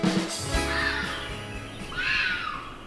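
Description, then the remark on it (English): A red fox gives two harsh, raspy mating shrieks, each drawn out and rising then falling, with a short pause between them and a low background rumble, heard at 5 a.m. through a bedroom window in Baltimore, Maryland. “That's the sound of a red fox. It is used as a mating cry.”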